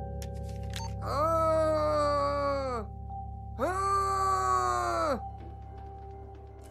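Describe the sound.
A voice hiding in a cupboard imitates a ghost with two long, wavering moans into a walkie-talkie, each lasting over a second with a short pause between, over a steady electrical hum.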